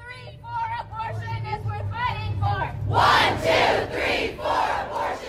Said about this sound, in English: I was in Austin, Texas, where it was just young people. It was thousands of young people, and they were shouting, vote them out, vote them out.